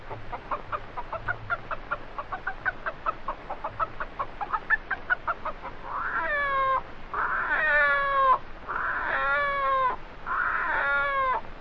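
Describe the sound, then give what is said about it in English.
A human voice imitates a hen's rapid, steady cackling for several seconds, then breaks into four drawn-out, warbling rooster crows, loud, with no other sounds. “A hen cackling with the rooster chorus.”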